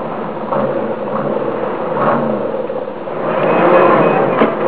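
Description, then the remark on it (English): A car engine is revved up steadily, its mid-range growl rising and swelling toward the end as the throttle opens, fairly loud with no voices. “Hear that? Yeah, it's an engine. We'll rev it up.”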